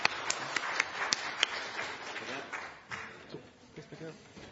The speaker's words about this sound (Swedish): Jag tycker vi tackar dem och er alla som deltagit med en applåd. Tack ska ni ha.